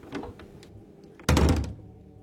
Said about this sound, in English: See this? This is the actual door they used in Under Milk Wood.